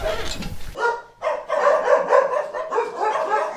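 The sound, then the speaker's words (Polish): A dog brought from Ukraine barks at an animal foundation in Łódź in a quick, continuous string of sharp, yappy, loud barks, following a brief rumble of handling or wind noise at the start. “zejdźmy w takim razie, bo ja wiem, że tutaj już na terenie fundacji znajduje się jeden z tych psów, które trafiły z Ukrainy właśnie tutaj do Łodzi.”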